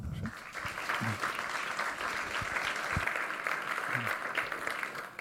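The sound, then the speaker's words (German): Sustained audience applause for a speaker introduced to give a talk on collisions of theory and practice in data protection, a dense, steady crackle of many hands clapping at even loudness throughout, with a few faint voices murmuring underneath. “Herzlichen Applaus.”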